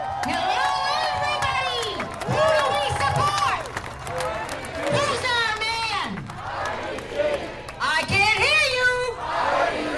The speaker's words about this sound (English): You'd see a stage decorated with red, white, and blue bunting. You'd see a boisterous crowd holding signs showing a bald white man and the words, "Our Leader."